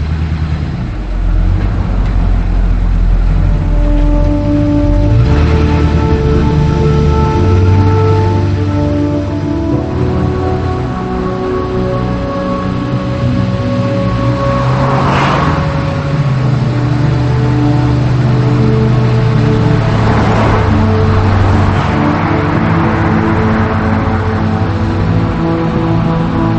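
car driving away

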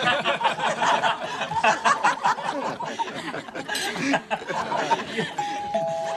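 doorbell ringing

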